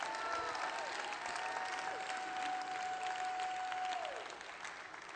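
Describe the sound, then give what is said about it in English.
A church audience claps and cheers steadily for about five seconds, giving Jesus a hand clap and a shout, a dense wash of applause with one long, high sustained shout or whistle riding over it before the clapping thins slightly at the end. “Come on, give Jesus a hand clap and a shout.”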